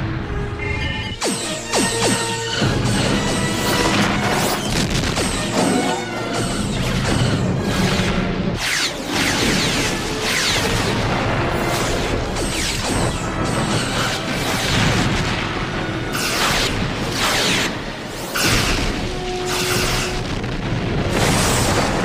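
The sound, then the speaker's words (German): A loud, continuous barrage of sci-fi starship weapon blasts and booming explosions as attack ships fire all weapons at a space station and the Defiant, with repeated sharp bursts and rumbling impacts layered densely throughout, and no voices. “Die restlichen Schiffe zielen auf die Station. Wir sind in Waffenreichweite. Herrlich. Dann mit allem, was wir haben. Feuer!”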